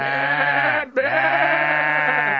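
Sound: goat and ram bleating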